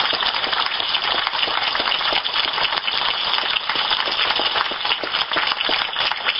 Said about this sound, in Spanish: Sin lugar a dudas, este no es un aplauso que recibimos nosotros ni nuestro equipo, sino es un aplauso que se lo trasladamos al Presidente de la República, que ha tenido la voluntad de que realmente haya una verdadera integración de Cuba y Uruguay